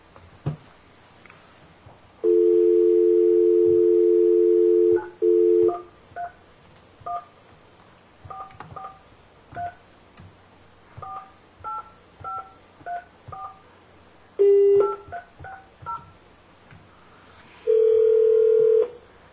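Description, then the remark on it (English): Phone keypad tones beep out a number as the Taney County Board of Equalization tries another phone number, in a quick series of short, evenly spaced pairs of pitches, preceded by a steady dial tone and followed by a ringing tone, with no talking. “We have another number here to try and get a hold of you with, and we will try that number.”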